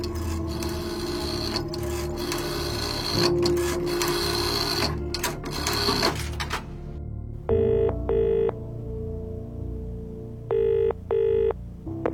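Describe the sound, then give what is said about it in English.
An outgoing phone call rings twice, each ring a pair of short electronic trills, heard through the line after a burst of busy mechanical whirring and rasping. “There was only one way out of this. And someone I had to ring first.”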